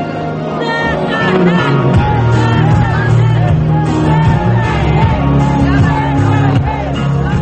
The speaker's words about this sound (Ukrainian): Вигуки людей глушить музика, яка лунає з табору противників Тимошенко, організованого колишнім регіоналом Олегом Калашніковим.